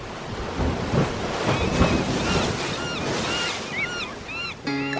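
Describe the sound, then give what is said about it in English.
Ocean waves break and wash in a steady roar of surf with a few stronger surges, while high chirping bird calls and some wind buffeting sit on top. “The allure of the sea.”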